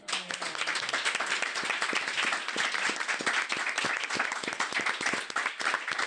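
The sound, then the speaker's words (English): An audience at the NJEA Transform Conference in Somerset, New Jersey, breaks into sustained applause to thank a panel, many hands clapping densely and steadily at an even loudness for several seconds, with no voices standing out. “But if we could all give a real strong round of applause and just thank our panel.”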